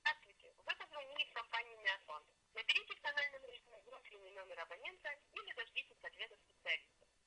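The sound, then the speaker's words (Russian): A call placed from a mobile phone to a number assigned to an automated attendant connects, with a recorded voice speaking steadily for several seconds through a thin, narrow telephone line, moderately loud. “Я сейчас с мобильного телефона вызываю или звоню на номер, закрепленный за автосекретарем.”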